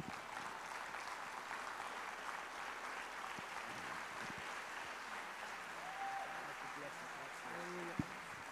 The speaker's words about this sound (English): Oh, come on, let's keep clapping and let's give God all the glory and the honor that's due Him, because certainly He deserves it. Come on, keep clapping.